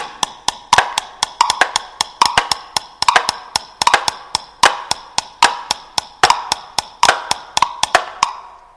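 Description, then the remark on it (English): Hammering and chopping of wood as a huge boat is built: a rapid, uneven run of sharp knocks and thuds, some overlapping, continuing steadily for several seconds with no voices. “Boys and girls, can you hear the boat being built?”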